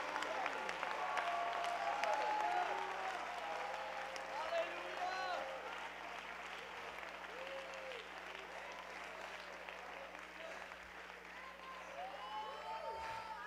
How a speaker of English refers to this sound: Would you jump to your feet and clap your hands one more time and shout unto God?